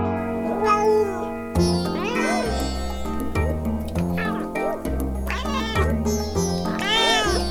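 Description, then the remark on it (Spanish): A cat meows several times in a row, clear, each call rising and falling in pitch, over a steady musical background that holds throughout. “En la esquina de mi casa, un gato sabe hablar.”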